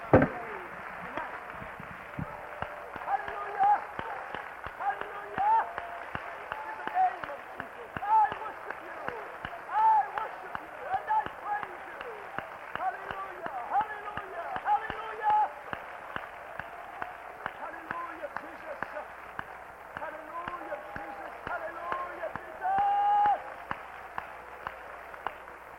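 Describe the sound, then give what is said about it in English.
An audience claps continuously in worship of the Lord, a dense, steady patter of many hands with voices mixed underneath, sounding somewhat muffled throughout. “Let's clap again for the Lord and worship him, because he is worthy.”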